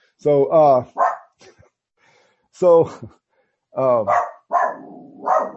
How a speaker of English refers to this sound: Oh, sorry. Dog.